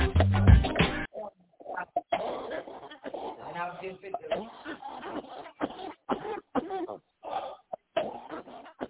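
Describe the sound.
A loud, harsh cough bursts out at the start, then voices carry on talking in short, broken phrases.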